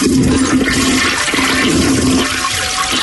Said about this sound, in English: Can he get a toilet flush soundbite and the dirty Germans talking about pooping on the deck?